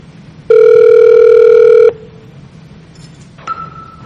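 A VoIP phone call secured with Z-Phone, its ringing tone: one loud, steady electronic beep lasting over a second, then silence and a fainter, shorter tone starting near the end. No one speaks.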